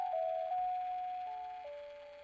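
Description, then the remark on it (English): A baby's musical mobile plinks out a slow, simple tune inside a small car on a road trip across America, its clear chime-like notes stepping from one pitch to the next, fairly quiet and alone with no voices. “In the time capsule of our small car, packed to the gills with gear, 3 people, and a 90-pound dog, the panorama of America flashed by our windows like a movie set to the soundtrack of our son's musical mobile.”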